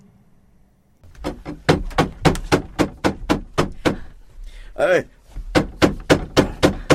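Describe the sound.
Rapid, insistent knocking on the door of a small house where people are gathered, in a dramatized Bible story, over a dozen sharp, loud raps in a steady rhythm, briefly broken by a short voiced exclamation before the pounding resumes.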